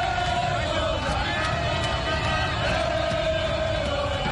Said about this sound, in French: Une foule de supporters aux couleurs vert, jaune, rouge du drapeau national a de nouveau déferlé dans les rues. Objectif, saluer les champions d'Afrique à leur manière. Parade de centaines de mototaxis. Concert de klaxons. Chants de supporters.